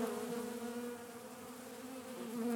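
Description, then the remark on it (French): A dense swarm of honeybees flying under a walnut tree, coming for honey, buzzes steadily and continuously, a layered droning hum that fills the space without pause and swells slightly toward the end. “Je suis sous un noyer et autour de moi, il y a des quantités d'abeilles qui volent, qui viennent chercher le miel.”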